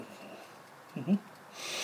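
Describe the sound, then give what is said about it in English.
A brief low murmur, then a soft, breathy sniff near the end, with air drawn in through the nose. “What are you sniffing?”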